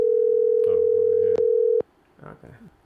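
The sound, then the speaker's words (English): A steady, loud telephone dial tone, as a call is placed to a listener, holds for nearly two seconds, then cuts off abruptly. Voices talk briefly underneath it, and quieter speech follows after the tone ends. “We have reached the part of the episode where we get to phone in a listener.”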